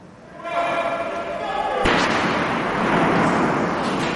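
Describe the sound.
A single sharp, loud gunshot cracks out inside the main building of the Canadian Parliament in Ottawa during a police response to a shooting, followed by a wash of noisy, echoing commotion; a muffled tonal hum and indistinct voices come before it.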